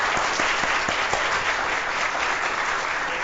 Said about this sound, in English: brother, you need a round of applause for everything you do for this church, man.